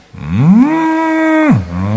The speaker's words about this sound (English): That's how the cow sounds like. They're not moo, no. Коровы вот такие звуки производят. Не му, а вот такие.